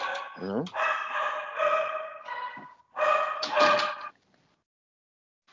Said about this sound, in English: So I got the dogs in the background. Oh, jeez. we got a new puppy, 6 months. And he just wants to play.